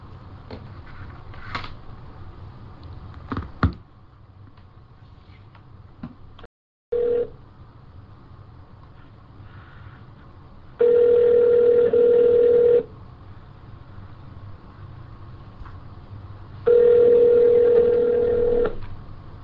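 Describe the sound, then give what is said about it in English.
A few clicks and a short beep as someone places a phone call, then two long, steady electronic phone tones, each lasting about two seconds with a pause between, clear with a faint hum underneath. “See how he feels about doing this on the phone.”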